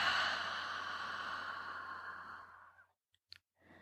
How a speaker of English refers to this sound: Let's do it again. Ready? Three quick sniffs. And a long exhale.